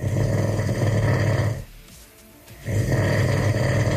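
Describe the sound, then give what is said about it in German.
A man in Brandenburg, Germany, snores loudly in his sleep, two long rasping breaths separated by a short quiet pause, heavy with a low rumbling rattle. “Nicht zu überhören, das Schnarchen der Brandenburger und Brandenburgerinnen.”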